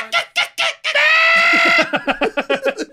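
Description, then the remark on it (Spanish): A turkey in a tree calls loudly: a few short yelps, one long drawn-out note, then a rapid rattling gobble of quick repeated notes, with no talking over it. “Sí, güey, ahí es al pinche guajolote así en un árbol.”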